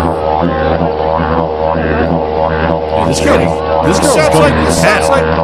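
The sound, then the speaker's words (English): A steady, buzzing drone from a didgeridoo, an Australian Aboriginal musical instrument, hums continuously, its low tone unbroken while the overtones swirl and warble, growing busier and more vocal-sounding toward the end. “It's a didgeridoo. I didn't think it had such a humming sound.”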